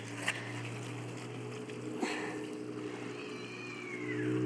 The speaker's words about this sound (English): Oh my goodness. Someone's cat just was in a fight or something.